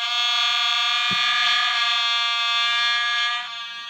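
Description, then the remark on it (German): A loud, sustained vuvuzela blare played from a sound-effects machine: one steady, buzzy, brassy drone rich in harmonics that holds unbroken for nearly four seconds, easing slightly at the very end, with a couple of soft thumps beneath. “Was denn? eine Vuvuzela.”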